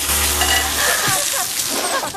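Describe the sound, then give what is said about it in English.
Water sprays hard from a tap into a woman's face, a loud, steady hiss with a sputtering, splashing texture that runs without a break for a couple of seconds, with no voices. “Water from the tap flies into her face.”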